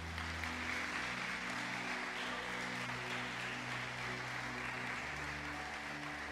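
A church audience applauds steadily during a sermon for several seconds, a dense, even wash of clapping that holds its loudness throughout, with a low sustained tone humming underneath and no one speaking.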